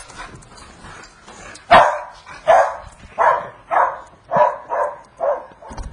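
A dog barks seven times in a fairly steady series, each bark sharp and moderately loud, with no talking, only light background noise between them.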